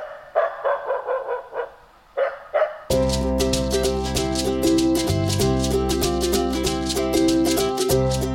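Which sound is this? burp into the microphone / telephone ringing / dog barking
dog barking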